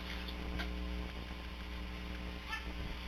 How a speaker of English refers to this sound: No, it's the washing machine. I'll let things soak for a while.